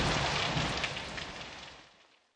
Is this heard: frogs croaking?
no